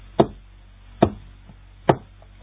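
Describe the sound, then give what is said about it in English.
Three firm knocks on a solid surface, evenly spaced about a second apart, clear with a short resonant thud each time and quiet in between. “And he knocked on the girl's heart like this.”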